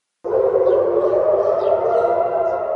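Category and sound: signal or alarm, air raid sirens wailing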